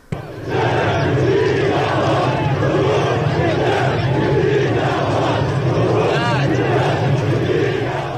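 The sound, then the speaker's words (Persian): A dense street crowd of protesters in Ahvaz chants and shouts continuously, repeatedly calling 'hemayat, hemayat' (support), many voices overlapping into a loud, steady roar with rising and falling cries, sustained for the whole stretch after a brief quiet start. “اما اون جاهایی که مفهوم بود مردم همش میگفتن حمایت حمایت، بعضی جاها حتی درگیری ظاهرا پیش اومده.”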